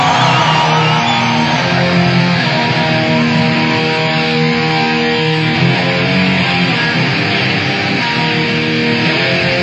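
An audience applauds and cheers loudly and steadily for about ten seconds, with shouts and whoops rising out of a dense, continuous roar of crowd noise.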